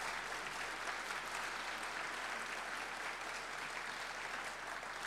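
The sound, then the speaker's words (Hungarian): Steady audience applause for award winners fills the whole stretch, a dense, even patter of many hands clapping at a constant level with no voices over it. “Lehet, hogy a többiek is itt vannak, akkor nekik is szól a taps, ne legyen félreértés.”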